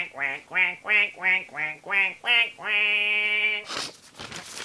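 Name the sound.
duck quacking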